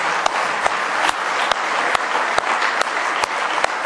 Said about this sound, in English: Give Him a big hand clap of praise if you love Him this morning.